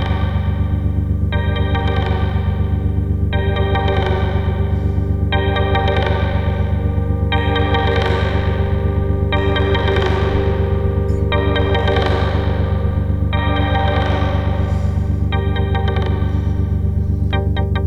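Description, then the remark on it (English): A ringing, pitched bouncing-ball ping repeats roughly every two seconds, each hit washing out into a long reverberant tail, over a steady low hum with no talking. “It sounds cool with lots of reverb too.”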